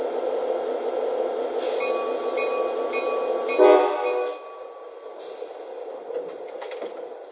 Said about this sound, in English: San Diego on track 1, train number 573, the Pacific Surfliner.